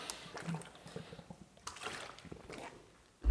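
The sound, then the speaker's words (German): Someone takes a sip of water: faint, soft liquid sloshing and a few short, quiet swallowing clicks spread over a few seconds, with no talking, ending in a brief louder bump. “Ich nehme nochmal schnell einen Schluck Wasser.”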